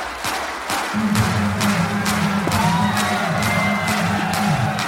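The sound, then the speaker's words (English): A crowd in Shanghai claps in unison at a performer's call during a track, to a steady, brisk beat, about ten claps, over a low sustained droning tone, with faint rising whistles and crowd noise in the background. “Raise those hands up! Clap, clap, clap, clap, clap, clap, clap, clap, clap!”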